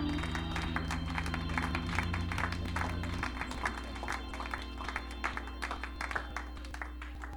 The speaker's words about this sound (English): Why don't you clap your hands unto the Lord here today? Praise God. Thank You, Jesus.